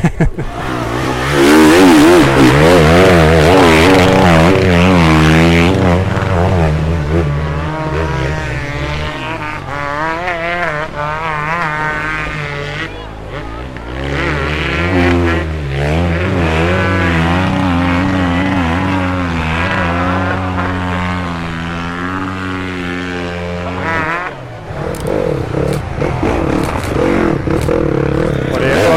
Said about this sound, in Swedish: Det som körde igenom här, gasar på friskt här, flyttar myren ut i publiken. Och ännu fler som får gratis spabad.